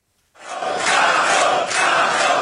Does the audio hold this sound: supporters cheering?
yes